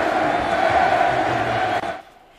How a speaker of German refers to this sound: Messi-Sprechchöre, also von den Rängen nach dem Doppelpack von Lewandowski, die waren natürlich sarkastisch und damit sollte natürlich gezeigt werden, die Wahl von Messi, die war nicht im Sinne der Fans.